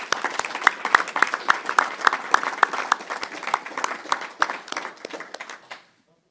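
An audience applauds a departing municipal council member who has received a royal honour, with many overlapping claps forming a dense, bright patter that holds for about five seconds before tapering off and stopping.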